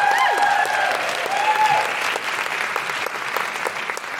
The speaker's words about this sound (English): A big round of applause